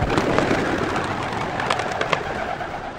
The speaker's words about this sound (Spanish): El evento comenzó con el lanzamiento de palomas blancas como un símbolo del Espíritu Santo que los acompañaría en la jornada a realizarse en ese importante día para los católicos.